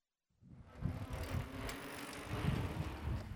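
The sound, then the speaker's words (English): Bicycles whizz past outdoors on the road through the Garden of the Gods park, closed to cars on a Sunday morning for the Motorless Morning event, with a steady whir and rush of wind, mostly low rumbling tire noise, continuous after a brief silent start, with no talking. “The sounds of birds chirping and bicycles whizzing by replaced the usual noise of weekend traffic.”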